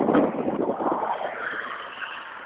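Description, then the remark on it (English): Steady traffic noise from cars going by on a road beside Route 202 on a Saturday morning, a broad whooshing rush that swells early and then slowly fades, with no voices. “And even though it's a Saturday morning, I still have all these cars going by.”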